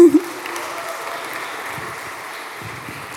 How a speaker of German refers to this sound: Ja, du kannst gern vorkommen. Applaus, ja.